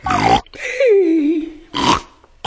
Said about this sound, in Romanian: e un porc dezgustător în spălătorie. Vreți să veniți? Că trebuie să dăm porcul afară.